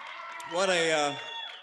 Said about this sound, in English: Romney waved to the standing, cheering audience and put his hand over his heart.